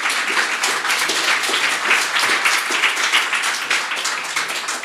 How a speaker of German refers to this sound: Man hört es am Applaus, ist heute etwas ungewöhnlich. Wir sitzen nämlich mit Jonas Deichmann nicht in unserem Podcaststudio in Hamburg, sondern wir sind beim Zeit Online Podcast Festival am 11. Juni in Berlin.